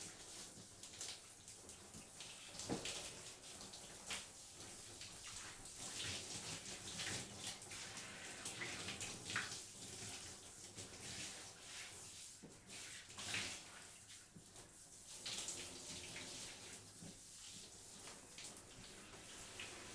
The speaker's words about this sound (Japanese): 弟くん、シャワー好きなんだね。確かにシャワーで洗い流すときってすっごく気持ちいいもんね。